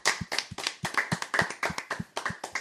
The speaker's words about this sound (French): On peut applaudir aussi pour toujours l'imagination débordante.